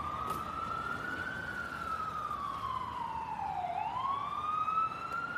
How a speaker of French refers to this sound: Par exemple, les postes radio, enfin les publicités à la radio, typiquement, c'est quelque chose de typique de Californie, ou si à un moment il y a une ambulance qui passe, les bruits, enfin voilà, toute mon ambiance en fait sonore.